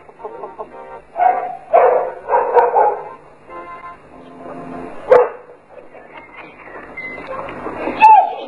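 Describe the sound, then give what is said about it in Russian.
Dogs bark and yip in a quick flurry of loud barks early on as they are called over, then a few scattered sharp barks follow with quieter whining in between. “Ну, давайте, давайте, мои хорошие собачки.”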